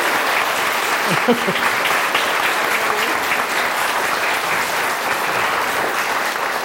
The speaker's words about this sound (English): Can we give all of you a love, whoop cheer, clap your hands for Tim Moore? Woo!